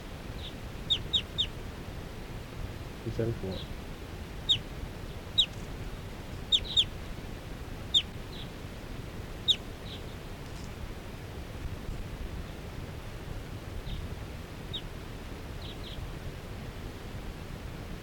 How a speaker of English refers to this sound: And the wild birds, four wild birds in the flock are calling. They're gonna take off.